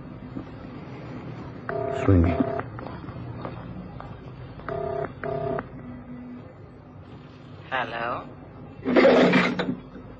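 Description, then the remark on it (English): Touch-tone beeps as a phone number is dialed: two quick pairs of clear electronic tones, followed by a couple of louder, rougher bursts over a low background hum. “I've got a phone number somewhere in my diary here.”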